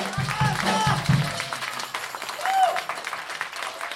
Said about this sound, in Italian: Un forte applauso, eh?